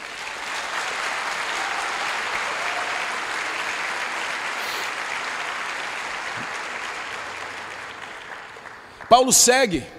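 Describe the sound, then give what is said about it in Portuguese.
An audience applauds Jesus in a dense, steady wash of clapping that holds for several seconds, then slowly thins out before a voice begins speaking at the end. “Aplauda Jesus.”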